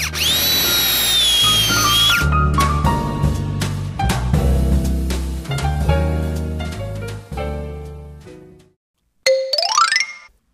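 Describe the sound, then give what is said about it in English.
An electric drill whirs loudly up to speed, then grinds on in bursts with its pitch wavering, stops briefly, and finishes with a short rising whine. “What kind of machine do you have? I have a drill.”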